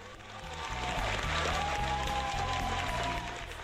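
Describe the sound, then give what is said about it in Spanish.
A canned applause effect played as a dedication to a viewer: a steady, dense wash of clapping lasting a few seconds, with a faint whistle and low thumping underneath. No one speaks. “Este aplauso es para ti.”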